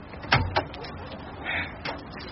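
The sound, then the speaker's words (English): Heavy thuds of someone pounding on a door, demanding it be opened while chasing a thief: two loud bangs in quick succession, then a softer knock a moment later, over a faint murmur of background noise. “Open this door before I break it down!”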